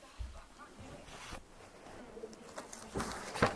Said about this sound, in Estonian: Ai, üks kutsu aevastas.